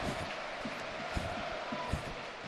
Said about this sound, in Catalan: Se'n va Raïm i entra Cazorla, escoltem-lo. Aplaudiments per a don Santiago Cazorla de tot l'estadi.